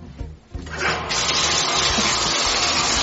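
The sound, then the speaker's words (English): Water gushes steadily into a bathtub, a loud, continuous splashing rush that swells in within the first second and holds unbroken to the end, with no one talking. “I started your bath, but I didn't turn off the water.”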